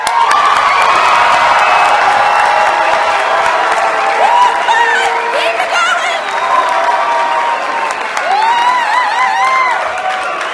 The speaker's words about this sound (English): You will basically make as much noise as possible and raise your hands and yell and scream as if we just beat Wayland or something.